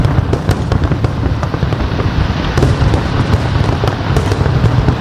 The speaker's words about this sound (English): Johannesburg's skyline was illuminated by thousands of fireworks as South Africans greeted 2025.